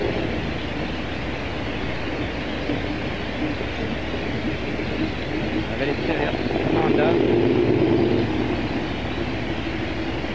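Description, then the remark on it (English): A loud, steady roar of jet engines fills the scene close by, swelling slightly near the end, with a man's voice speaking briefly over the din. “Where I have to surrender myself to the noise of the engines for the moment.”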